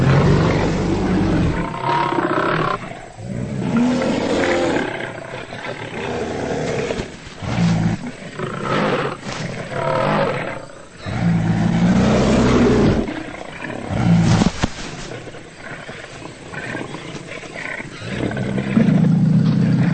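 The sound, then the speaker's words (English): Several lions roar and snarl in a loud, chaotic scuffle over a carcass, refusing to give up their kill to a short-faced bear, with growls overlapping in bursts and rough, throaty snarls rising and falling throughout. “But the lions won't give up their hard-won meal without a fight.”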